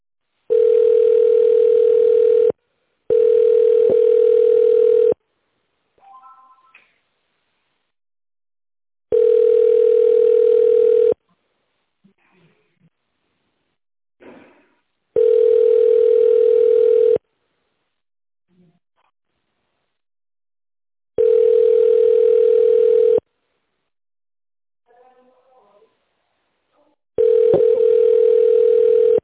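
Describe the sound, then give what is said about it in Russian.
A steady telephone ringback tone, heard while on hold after calling the Russkaya Shkola trading house, sounds in long even bursts, roughly two seconds on and four off, with a low hum tone and faint scattered blips in the silent gaps. “Вы позвонили в торговый дом «Русская школа». Пожалуйста, дождитесь ответа свободного менеджера.”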